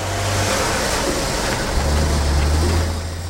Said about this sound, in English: Luke runs for the truck. Luke, wait! As it drives away.